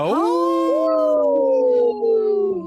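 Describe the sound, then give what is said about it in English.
On a radio show, people howl like wolves in one long, loud, sustained cry that swoops up at the start, then holds a steady pitch and slowly sags before fading out. “Hey, let's give a big howl.”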